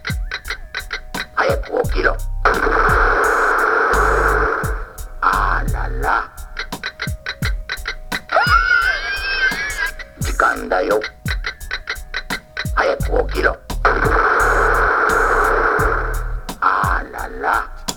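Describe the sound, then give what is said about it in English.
A talking novelty alarm clock goes off: steady rapid ticking runs throughout while bursts of a synthetic voice and buzzy electronic tones repeat loudly over about eighteen seconds. “Also, I have no uses for alarm clocks.”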